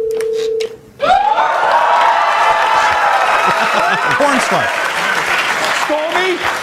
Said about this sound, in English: She gets a standing O cheer.